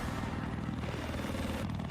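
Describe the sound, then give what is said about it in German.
A video game helicopter's rotor chops steadily and loudly, a dense low whumping pulse with engine whine over it, continuous for the whole short stretch, with no voices. “Heli ist OP, change my mind.”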